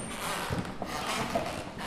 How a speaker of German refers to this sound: Knarzt der Boden, das hört man zwischendurch immer. Das stimmt. Wir haben hier die alten Holzböden.